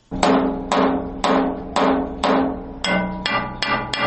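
An Afghan worker's blacksmith's hammer rings against metal in Kabul, Afghanistan, in a steady series of about eight sharp, resonant strikes, each leaving a bright metallic ring that decays before the next blow, with no voices.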